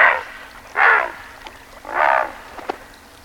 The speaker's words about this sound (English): It may, but this sound comes from a present-day creature, the great blue heron. With long neck and legs, this blue-gray, crane-like bird is a familiar sight, standing sentinel on docks, hunkered in a field, or wading in shallow water.